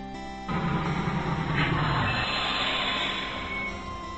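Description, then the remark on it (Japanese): A train runs steadily along the rails, a loud, continuous rumble and rattle kicking in after a brief quieter start and holding even throughout, with no voices; the train makes a wide curve a few minutes after crossing an iron railway bridge. “鉄橋を渡って数分ほど過ぎた頃に電車が大きくカーブを描いた。”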